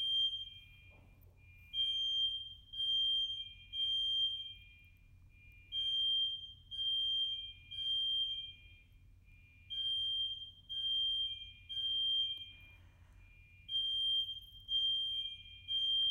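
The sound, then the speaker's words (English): A smoke alarm just outside a bedroom door sounds in repeated groups of three shrill, high-pitched beeps with short pauses between, steady and fairly loud, over a low constant hum with no one speaking. “if I go outside, then I'm going to go down the stairs and it's going to end up being a false alarm”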